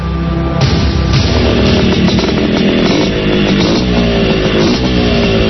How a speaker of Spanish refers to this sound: Es el motor antiguo pero potente de aquellas viejas Bultaco de los años 70.